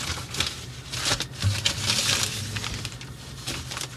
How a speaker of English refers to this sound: That sounds papery. He's dealing with paper. Oh, there's one that's wrapped in paper that you brought from Portland. It's still wrapped in paper? That you sent. Yeah. There's one you sent from Portland.